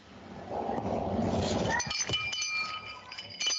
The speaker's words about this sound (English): We're going to start with the first handful, or maybe more than a handful of people, with a time limit of 3 minutes each. Would the committee assistant please sound the timer so that people know what to listen for?